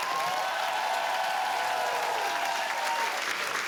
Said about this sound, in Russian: Настя Веневитина, смотри, все аплодисменты тебе.